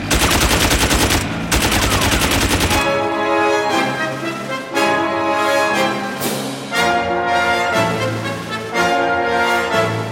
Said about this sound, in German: Es wird geschossen! Sind die verrückt? Mit MGs? Hey, Feuer einstellen!